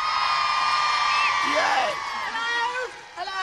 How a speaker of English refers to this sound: Ladies and gentlemen, put your hands together. Oh. A big cheer